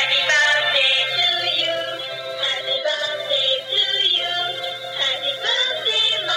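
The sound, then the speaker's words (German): A singing dancing cactus toy, held up to a camera, plays a tinny, high-pitched electronic song, bright and steady for several seconds with a bouncy melody and no talking over it. “hält so einen tanzenden Kaktus”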